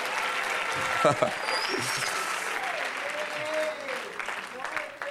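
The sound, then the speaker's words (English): A crowd applauds God with a hand clap of praise: steady, dense hand clapping that holds across the whole stretch, with scattered voices calling out and a few tonal cries rising above the clapping. “Give God a hand clap of praise tonight.”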